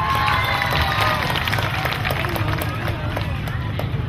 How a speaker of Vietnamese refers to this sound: với tiết mục này quý vị sẽ dành những tràng vỗ tay nhiều hơn nữa cho tiếng hát của thầy.